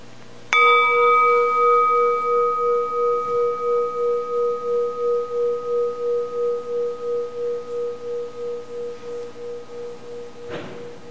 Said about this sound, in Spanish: Y ahora, a terminar esta breve meditación, vamos a escuchar a la campana. Desde empieza hasta el timbre, hasta no es posible oírlo más.